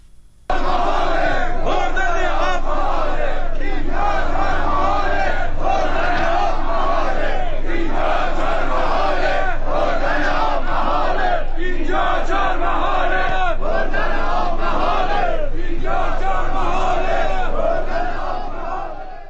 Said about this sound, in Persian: باز هم صدای بخشی از معترضان را بشنویم.